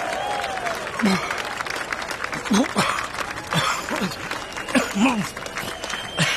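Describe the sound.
An audience applauds with dense, steady clapping that holds at an even level for several seconds, while a few brief vocal sounds and voices poke through the noise. The applause is for someone who has just eaten six chili peppers in a row.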